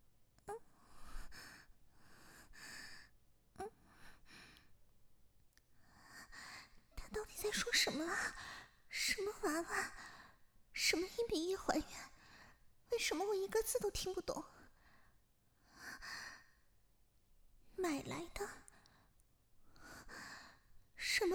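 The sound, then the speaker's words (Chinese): Heavy panting breaths, fairly loud, come in irregular bursts, some voiced with strained gasps and sighs, pausing briefly between them. No words are spoken. “你只能听到我的喘息声吗？”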